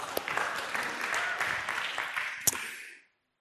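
crowd, applause

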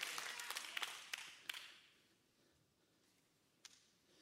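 crowd, audience applauding

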